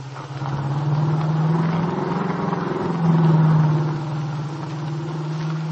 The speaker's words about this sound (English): Now, with Dell at the wheel of her car, the nightclub owner and the young entertainer turn onto the main highway which leads to Chicago.